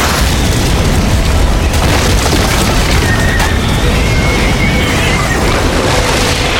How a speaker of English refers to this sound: The burning missile tore off the railing and blasted a chunk out of the middle of the bridge itself. And then it streaked over Kip's head and smashed the wood stairs above the dock.